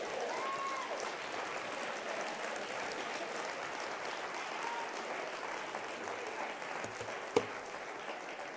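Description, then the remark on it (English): A crowd applauds steadily for several seconds, clapping to bless the Lord, a dense wash of many hands clapping at an even loudness, with one sharper clap standing out near the end and no talking. “Come on, bless the Lord today with a hand clap.”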